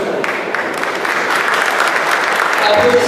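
Steady, loud audience applause fills the whole stretch, a dense patter of many hands clapping with faint murmuring underneath and no single voice standing out.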